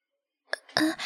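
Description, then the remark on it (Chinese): After a moment of silence, a sudden cough breaks out: a short sharp catch followed by two harsher, louder bursts of coughing, with no talking. “突然咳嗽，吓了我一跳啊。”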